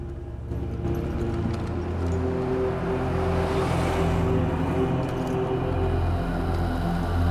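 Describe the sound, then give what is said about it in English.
A car engine rumbles steadily as the vehicle pulls away out of a hangar, a low, continuous drone with a broad swell of road or engine noise midway, with no voices. “The car pulls away out of the hangar.”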